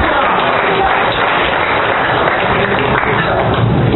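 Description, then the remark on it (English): Steady, dense applause from a crowd fills the whole stretch, a loud continuous wash of many hands clapping at once with no clear individual beats. “Let's clap it.”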